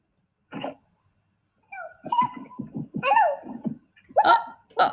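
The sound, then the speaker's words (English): A floppy, hyper puppy yips and whines in short, high, excited bursts: one quick yelp, a pause, then a string of squeaky yaps and whimpers. “I think they said hello.”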